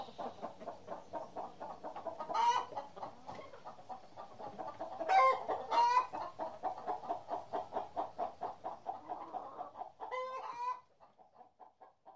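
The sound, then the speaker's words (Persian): A group of hens clucks steadily, a dense, continuous chatter of short pulsing calls, punctuated by a few louder, sharper squawks. “مرغ های همسایه پرهایش را دیدند. در گوش هم گفتند: قادی خانم، قادی خانم بیچاره مریض شده، مریض شده.”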